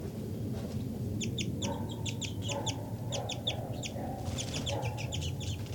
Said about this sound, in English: 5-9 continues to give flight calls.